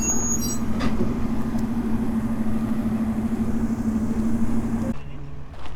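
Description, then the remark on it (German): An old Unimog truck carrying wood drives around at a heritage railway event, its diesel engine droning steadily, a low rumbling hum that holds for about five seconds before cutting off abruptly, leaving quieter background noise. “Da fährt so ein Hanomag mit Holz rum. Oder ist es ein Unimog?”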